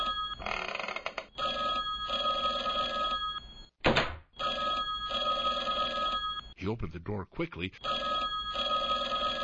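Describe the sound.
A telephone bell rings steadily, insistently and loudly while a man speaks over it; a brief thud and some rustling interrupt partway through.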